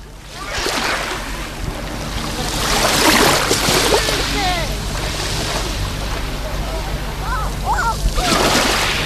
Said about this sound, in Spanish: El sonido del mar. Escucha cómo suena hoy, 1 de julio, la playa de Salobreña. Acercamos el micrófono porque el mar está como un plato. Mira, mira, pon los oídos.